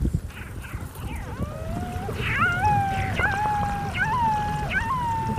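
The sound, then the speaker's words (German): Underwater recording of air bubbles escaping from glacier ice: sharp little pops recur every second or so, joined by high, sweeping chirps and whistles over a low, steady rumble. “Und da hört man jetzt die Luftblasen, die im Eis eingeschlossen sind, die entweichen und dabei so kleine Plopp-Geräusche machen, beziehungsweise es ist auch so ein hohes Zirpen.”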